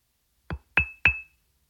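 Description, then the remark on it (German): Sound number 12 in a sound-matching game: three quick taps on a glass or ceramic object, the second and third leaving a clear, high-pitched ring that lingers briefly. No voices, just the short tapping sequence. “Das ist Glas oder Keramik.”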